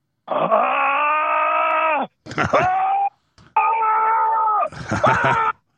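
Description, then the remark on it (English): A human voice lets out a loud, drawn-out war growl in three long, strained bursts, each with rough, rasping breaks and a pitch that sags and wavers, with no words. “Got the war growl going.”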